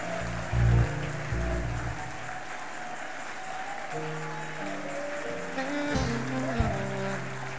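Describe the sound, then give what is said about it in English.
An audience claps hands in a dense, steady wash of applause lasting several seconds, with sustained keyboard-like musical tones and a few low thumps underneath. “Can we clap our hands and rejoice over this one?”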